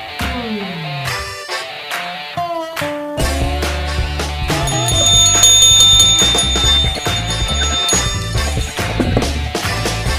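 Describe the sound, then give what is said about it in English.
A bell rung on air at the radio station Country Club FM to mark a ticket giveaway rings out with bright, sustained metallic tones over about ten seconds, loud, layered over a dense musical backing with a steady low bass. “Bell has been rung.”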